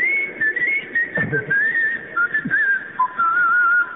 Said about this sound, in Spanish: El chiflido va pasando.